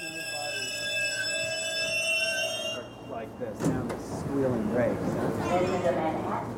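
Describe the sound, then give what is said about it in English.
A loud, steady multi-tone door alarm rings for about three seconds and then cuts off, leaving busy subway station ambience with murmuring crowd voices and rumbling movement. “We leave the subway, climb up onto the sidewalk, and walk through the cold, crowded streets.”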